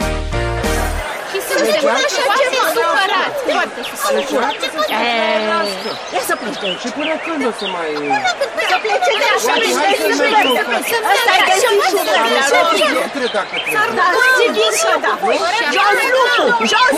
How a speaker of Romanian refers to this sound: Dragi copii, ceea ce auziți acum este o revoltă, o răzmeriță, nici nu știu cum se mai spun. Cert este că aici, în Desișul Verde, unde ne aflăm acum, este multă agitație, lumea țipă, se ceartă, huiduie